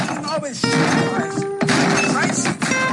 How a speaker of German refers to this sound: Und deswegen mache ich jetzt hier diesen Tisch mal kaputt, ja?